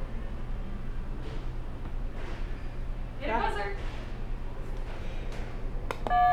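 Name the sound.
buzzer being pressed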